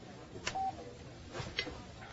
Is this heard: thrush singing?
no